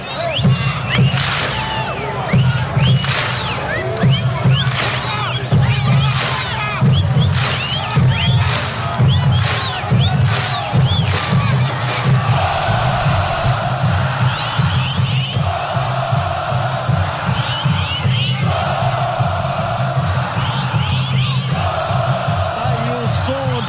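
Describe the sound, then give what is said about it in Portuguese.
A large crowd of fans of the green-and-white team at the Couto Pereira stadium roars the war cry "coxa, coxa, coxa" to celebrate the team's victory, loud and unbroken, with rhythmic shouted bursts at first, then a sung chant repeating in steady cycles of a few seconds. “Aqui do Couto Pereira, captando, né, o grito do torcedor alviverde de coxa, coxa, coxa, comemorando esta vitória do time alviverde.”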